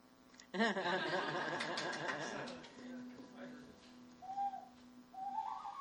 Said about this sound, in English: Here's my dog whistle.